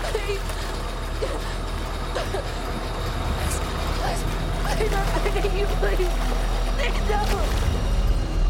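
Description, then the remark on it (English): A metal pool cover, set going by a button clicked on a phone, slides steadily over the water, a continuous low mechanical rumble with a watery churn that swells slightly halfway through, faint murmured voice fragments drifting over it. “He clicks a button on his phone and a metal pool cover begins sliding over the water.”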